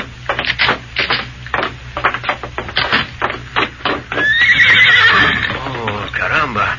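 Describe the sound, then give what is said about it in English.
A white horse whinnies loudly in a long, quavering neigh, after a run of quick, steady hoof clops. Voices may murmur faintly in the background. “Where would a boy get such a beautiful horse as this?”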